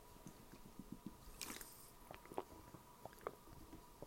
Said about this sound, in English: Get a drink of water first because my throat has been messed up today.